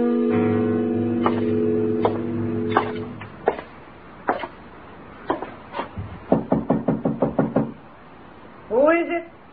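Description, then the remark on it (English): Several loud raps on a door, first scattered and spaced out, then a rapid run of about eight knocks. A sustained low tone plays early on, and a voice briefly speaks at the end. “Open the door, Dillon.”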